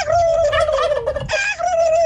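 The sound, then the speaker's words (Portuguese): A person imitates a wild turkey's gobble, a loud, rapid warbling rattle that runs unbroken for about two seconds, with no other talking. “sou o … e aqui vai o meu peru bravo”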